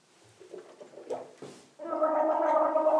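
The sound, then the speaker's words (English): A girl gargles water after brushing her teeth: a few soft wet splutters and sloshes give way to a loud, steady, bubbling gargle with a throaty buzzing tone that continues to the end. “Gurgle, gurgle.”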